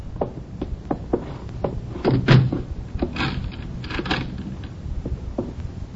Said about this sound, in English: A Chinese I didn't know opened the door and looked at me hard for a moment